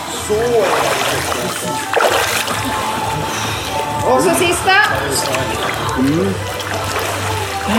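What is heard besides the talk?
water splashing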